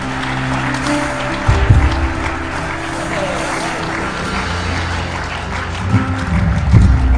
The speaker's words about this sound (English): Can you give God a hand clap of praise for this tonight?